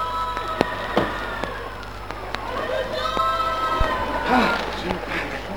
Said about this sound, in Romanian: Ba da! Auzi! Auzit! Strigă cineva cu ajutor!